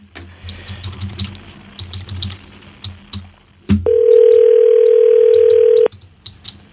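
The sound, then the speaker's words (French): Irregular clicking of keys being typed on a computer keyboard for a few seconds, then a loud, steady telephone dial tone takes over for about two seconds before cutting off. “Ouais, c'est ça, on va taper sur le clavier.”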